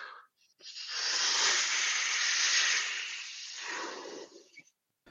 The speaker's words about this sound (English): First, blow up your balloon. I'll blow up mine.